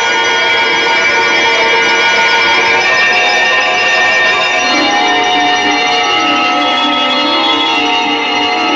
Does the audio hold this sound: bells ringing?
yes